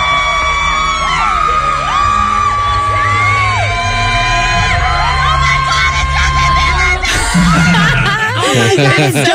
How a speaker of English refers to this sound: And here's kind of like the crowd screaming because they all know. This is like such a moment.